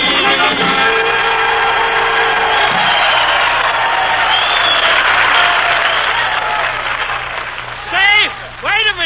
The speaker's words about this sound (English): Save that applause, ladies and gentlemen. You'll need it to congratulate Harry Von Zell.